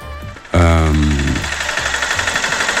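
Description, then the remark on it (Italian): A loud diesel tractor engine suddenly starts up, then settles into a steady, rhythmic knocking idle that runs continuously to the end. “Cos'è il trattore? Lo stai preparando?”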